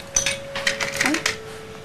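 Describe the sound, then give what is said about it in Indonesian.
A few sharp hammer taps ring out at an uneven pace, bright and clinking, with a faint steady hum running underneath and no talking. “Palu.”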